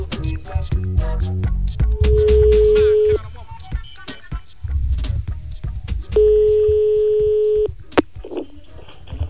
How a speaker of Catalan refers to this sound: Espera't, que et tallo, que ja sona. Punxem el telèfon.